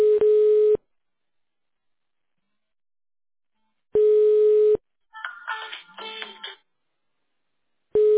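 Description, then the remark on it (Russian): A telephone ringback tone while a call to a rental company is connected to an operator after an automated phone menu: a loud, steady single-pitch buzz lasting under a second and repeating about every four seconds, with a short muffled warbling sound between the second and third rings. “Мы не получили действительный ответ. Подождите, идет соединение.”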